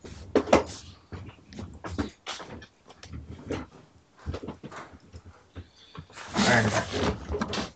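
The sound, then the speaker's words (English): A door opens and shuts with a few thumps and rattling knocks, ending in a louder burst of scraping noise as it swings closed. Faint voices murmur underneath. “Watch doors. That's extremely distracting.”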